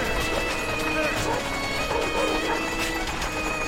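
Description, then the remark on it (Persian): A horse-drawn cart rolls past a flock of sheep on a road, hooves clip-clopping in a steady rhythm over continuous rattling and outdoor noise, loud throughout. “یه گاری از کنار گله گوسفند عبور میکنه.”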